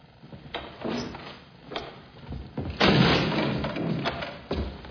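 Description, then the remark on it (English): On a film set, an actor playing Lobo struggles to get through a door, making a series of bumps, rattles and heavy thuds at uneven intervals, with the loudest clatter near the middle. No one speaks. “Looks like Big Baldy had a little trouble getting through the door.”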